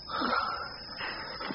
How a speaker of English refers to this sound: He just started a twitching like that and breathing real hard. You know what's wrong, preacher? I think so. Sick bad, you think? Pretty bad.